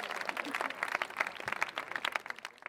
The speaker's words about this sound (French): Bon, pourquoi là, ça applaudit? Les gens sont contents que j'ai des problèmes techniques.